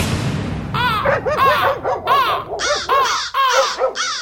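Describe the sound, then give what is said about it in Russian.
Several crows caw loudly and harshly in quick, overlapping bursts as they take off from a birch tree, a raucous chorus, with a low rumbling noise underneath at the start. “С березы с громким карканьем взлетели вороны.”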